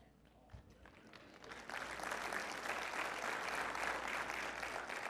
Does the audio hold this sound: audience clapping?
yes